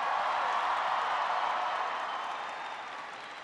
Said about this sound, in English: Can everybody please give Camille a big round of applause for that introduction?